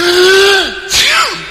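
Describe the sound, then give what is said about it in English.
A loud single sneeze: a drawn-out voiced intake that sags in pitch, then a sudden breathy burst trailing into a short falling vocal tail, with no talking around it. “Gesundheit.”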